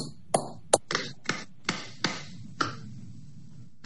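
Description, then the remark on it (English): Roughly eight sharp hand claps ring out one after another at uneven intervals in a court hearing, where counsel claps at the judge's request to sync the audio with the video, each a crisp crack with a short ringing tail, with no voices in between. “Raise your hands and clap.”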